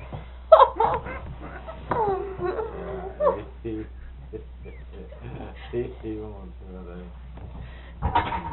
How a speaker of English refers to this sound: Is that one of the little dogs that come up? Yeah. That's one of the little dogs that come up and looked at the puppies when they were shut up in the trailer.